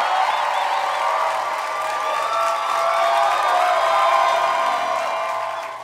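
audience clapping and cheering

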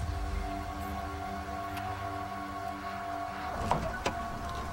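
car trunk being opened

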